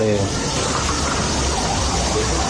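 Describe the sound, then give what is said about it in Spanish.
Water gushes from a burst pipe in a loud, steady rushing spray, a dense hiss that holds unbroken from start to finish, with a faint voice briefly audible at the very beginning. “Mira el agua, no mi madre, la tubería.”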